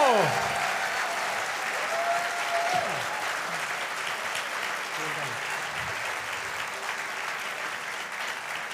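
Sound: audience applause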